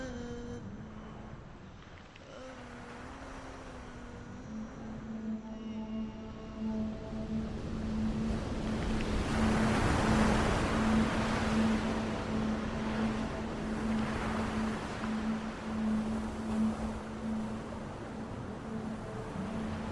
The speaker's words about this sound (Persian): آفتاب برآمد، دریا روشن است، زورقی بی هنگام در بخار فلق نزدیک می شود و می شنوم نامم را با حروفی از شن بر دریای سر می خوانند.